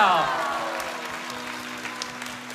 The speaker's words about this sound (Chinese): 我们再给他们一个的掌声可以吗？